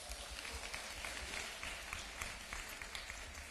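An audience at a Christmas church service applauds steadily to welcome the pastor to give the sermon, many hands clapping in a dense, continuous patter that holds an even, fairly loud level throughout, with no voices standing out.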